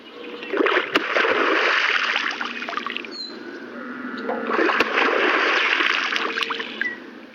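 A beaver slaps its tail on water twice as an alarm call, each sharp smack followed by several seconds of loud, hissing splash and churning water, with faint bird calls in the background.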